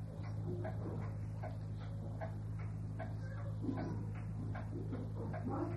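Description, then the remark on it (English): A clock ticks steadily amid quiet, each soft click evenly spaced over a constant low electrical hum, with no talking. “I love it when we're all quiet and the clock goes.”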